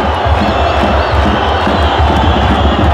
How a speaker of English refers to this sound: The atmosphere. The cheer when the referee blows the final whistle. Yeah, here he goes.